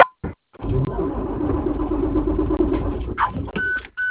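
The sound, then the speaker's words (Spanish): An engine cranks with a steady, churning grind for about three seconds but never catches, then cuts off, followed by a short pair of high electronic beeps. “No prende.”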